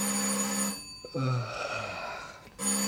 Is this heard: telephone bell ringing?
yes